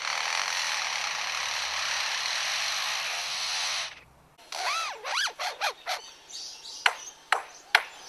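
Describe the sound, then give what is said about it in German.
A steady rasping, hissing noise stops abruptly, then a blackbird whistles a run of clear, swooping electronic-sounding notes and sharp pings, imitating a mobile phone ringtone. “Und welchen Sinn ergibt der Klingelton aus der Amselkehle nun oder der Akkuschrauber-Sound bei dem Leierschwanz?”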